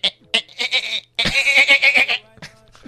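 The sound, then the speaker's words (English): A voice imitates a dolphin with shrill, high-pitched squeaks: a few short chirps, then a long, loud warbling squeal lasting about a second, and one last brief chirp. “He said, during anal sex, your girlfriend will always turn into a dolphin. Because you put it in and she goes...”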